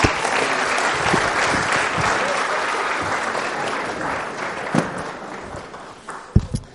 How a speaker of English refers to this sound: That's really good. If you want to go and take a seat, we'll give him a round of applause for helping us.